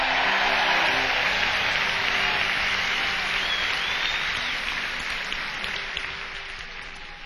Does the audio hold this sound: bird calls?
no